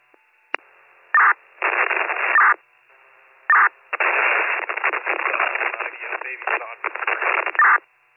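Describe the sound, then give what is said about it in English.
Crackling, static-heavy radio transmissions come in several bursts, each switching on and off abruptly, with muffled, garbled voices buried in the narrow, hissy band of noise. “They're all static, but I did copy baby's conscious and breathing.”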